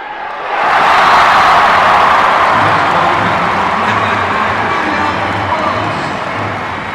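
A crowd erupts in loud, sustained screaming and cheering after a winning point brings the first set of a Turkey volleyball match to 21-13, the roar swelling quickly and holding steady for several seconds with a faint rhythmic low pulse underneath.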